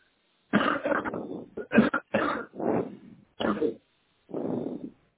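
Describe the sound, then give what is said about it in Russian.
A series of harsh coughs comes in irregular bursts, about six or seven hacks with short pauses between them, with no talking. “Че кашляешь?”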